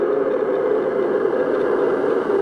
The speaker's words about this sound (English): And then I sleep with my sound machines on. This one's a quiet one.